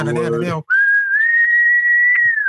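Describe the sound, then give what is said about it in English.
A short burst of voice gives way to a person whistling, loud, holding one clear note that drifts slightly upward for about two seconds. “A little whistle.”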